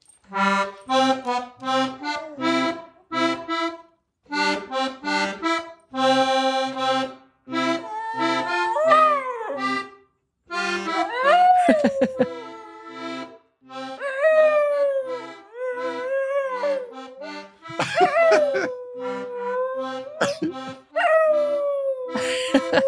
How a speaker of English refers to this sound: Like, I'd love to hear the dog howling and you playing the accordion.